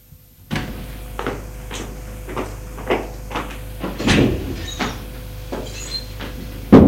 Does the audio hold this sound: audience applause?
no